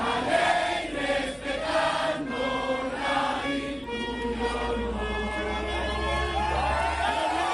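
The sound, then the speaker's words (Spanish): A large crowd cheers and applauds for Edmundo González, president-elect of Venezuela, a loud, steady roar of many voices blending together with rising shouts, continuing without a break for several seconds. “Un aplauso para ¡Libertad!”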